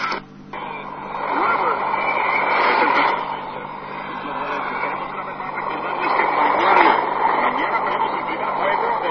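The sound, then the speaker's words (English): Continuous hiss and crackle of shortwave radio static, steady and fairly loud, as the scan button is held on a night of bad wave propagation. Faint garbled voice fragments, including a Spanish station, and warbling tones drift in and out as the receiver sweeps between stations. “Yeah, getting a lot of static there.”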